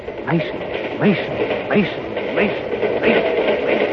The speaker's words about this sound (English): Yes, the drumming of the wheels grinds that name into the old man's ears like a hollowed chant as the train rattles on.